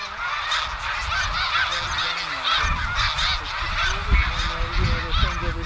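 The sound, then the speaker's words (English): A huge flock of snow geese in flight, heading north, honks nonstop, their overlapping calls forming a dense, loud chorus, with a low rumble of wind underneath. “It was as if the ground where the snow geese were had been covered with snow, and then someone scooped it all up and threw it in the air like confetti.”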